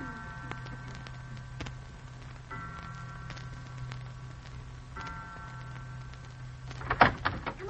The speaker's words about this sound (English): The door is opening.